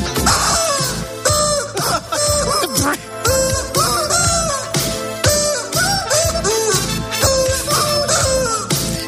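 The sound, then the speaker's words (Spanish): A rubber chick toy squeaks loudly and almost nonstop, its nasal squeals rising and falling in pitch in a quick rhythmic run, as if being played like a tune. “Insistimos, es un muñequito de goma, un pollito de goma.”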